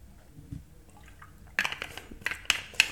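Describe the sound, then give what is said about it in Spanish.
Someone drinks water on a very hot summer day: a quiet pause, then a run of wet, clicking liquid sounds and sharp little splashes that grow louder over the last second and a half, with no talking. “Voy a tomar algo de agua.”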